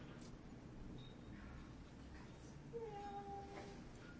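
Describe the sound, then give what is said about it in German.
A person, looking at a picture book with a child, imitates a cat with one drawn-out, rising-then-falling meow, moderately loud, near the end of an otherwise quiet stretch with soft background noise and no talking. “Miau, mach die Katze.”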